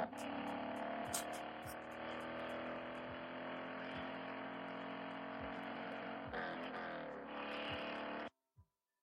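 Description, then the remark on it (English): A car engine roars loudly and steadily as the car swerves sharply around a small creature on the road, its pitch shifting as it revs hard near the end, then cuts off abruptly into silence. “swerves around the creature, nearly flipping the car.”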